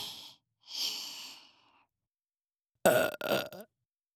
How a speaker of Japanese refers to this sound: ゲップ聞かせてあげる。